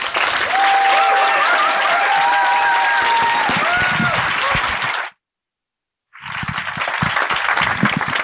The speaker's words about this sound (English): So without further ado, can I have a massive round of applause for Mike?